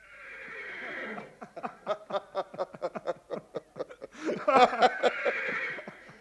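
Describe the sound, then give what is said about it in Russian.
A horse whinnies loudly: a drawn-out call breaks into a rapid, stuttering series of pulses, then rises into a final shrill squeal. No voices accompany it. “Добрый конь, хороший конь, я доволен.”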